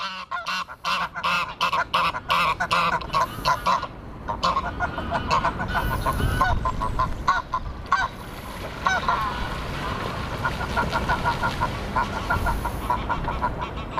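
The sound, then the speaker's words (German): A pair of geese greet each other after the brooding female leaves her nest and swims to her mate, honking back and forth in a loud, rapid, overlapping exchange, their harsh calls repeating in quick bursts with a faint watery background. “Sobald die Gans ihr Nest verlassen hat, schwimmt sie zu ihrem Partner. Die beiden begrüßen sich fast so, als hätten sie sich eine lange Zeit nicht gesehen.”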